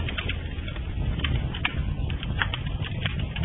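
A fire crackles steadily on a very hot day, with irregular sharp pops and snaps scattered over a constant low, rushing roar. No voices are heard.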